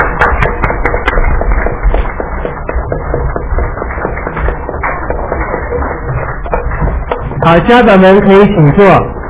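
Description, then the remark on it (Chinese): At a church, the graduates' parents, relatives and friends stand and clap in a dense, steady burst of applause for several seconds to congratulate the graduates, followed near the end by a loud voice calling out over the fading clapping. “在这时候我们也请所有毕业生的亲戚父母亲朋友都起立我们一同鼓掌恭喜你们, as parents and friends, stand up, stand up.”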